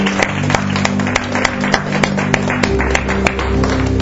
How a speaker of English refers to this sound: In Jesus' name, let's give a clap offering to Jesus.